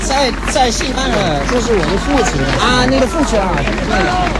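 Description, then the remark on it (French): A loud, steady crowd hubbub of many overlapping voices calling out and cheering, with scattered clapping mixed in throughout, as young and older people acclaim marchers carrying flags, including flags of left-wing parties and the CGT. “Et là, autour, il y a des jeunes, il y a des moins jeunes qui les acclament, qui les applaudissent.”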